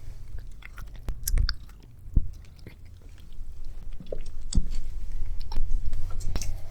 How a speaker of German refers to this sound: Man hört das Schmatzen.